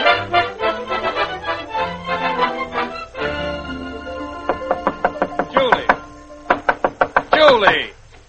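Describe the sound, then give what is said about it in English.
A voice at first, then a steady run of sharp, loud bangs on a bedroom door, repeated in an even rhythm over a sustained musical backdrop. “banging at a lady's bedroom door.”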